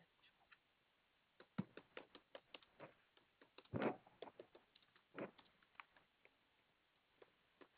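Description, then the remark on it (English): Quick, irregular keyboard typing of notes on a delivery case: a flurry of light clicks and taps, with a few heavier clacks mixed in, like a keystroke or spacebar hit harder. No one speaks. “Give me just a moment to finish typing some notes on it.”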